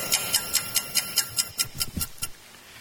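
A clock ticks about eleven times in a quick, steady rhythm, roughly five crisp, bright ticks per second, heard alone with no voices.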